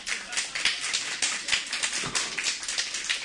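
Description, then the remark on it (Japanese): An audience at a singer-songwriter's live performance in Japan claps together in a steady wash of crisp, overlapping hand claps. The applause stays fairly even and bright throughout, with no clear single beats standing out. “今日うちはべっぴんっていう人来て拍手。”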